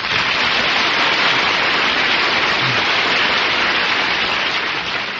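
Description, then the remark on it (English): A big round of studio audience applause on The Big Show, a dense, steady roar of clapping that stays loud and even for about five seconds with no voices over it. “My goodness, that's the biggest round of applause I ever got.”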